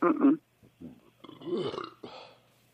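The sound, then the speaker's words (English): A loud belch at the start, low and gurgling, followed by a few scattered vocal sounds and murmurs with people talking briefly afterward. “Oh, that was a belch.”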